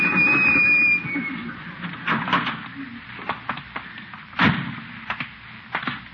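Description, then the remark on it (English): A drugstore door slams with a sharp, loud bang, surrounded by a few softer knocks and clatters, after a brief steady whine at the start. No one speaks. “Slam the door on my tail.”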